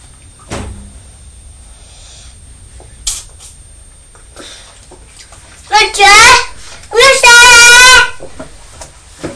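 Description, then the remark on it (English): Water sloshes and splashes in brief bursts as toy trains are washed, with a child's loud, high squealing vocal sounds breaking in near the end. “Push them down. Wash them down. And then push them down.”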